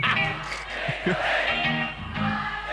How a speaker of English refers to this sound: That crowd gets lit!